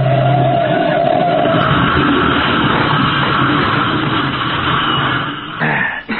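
A car engine roars steadily with a rough, noisy rumble, then a brief jolting impact near the end as the car is driven into a curb. No one speaks.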